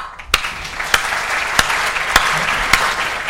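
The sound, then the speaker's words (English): Steady audience applause welcoming the speaker at a lecture at the LSE: a dense wash of many hands clapping at moderate loudness, with a few sharper individual claps standing out at irregular intervals. No one speaks. “Maybe you should hold your applause until you hear what I have to say.”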